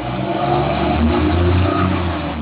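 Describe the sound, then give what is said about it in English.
A train pulling away, heard over an open phone line during a conference call: a continuous low engine drone with steady humming tones and broad rumbling noise, holding a fairly even loudness throughout, with no talking. “We're hearing a train leave or something.”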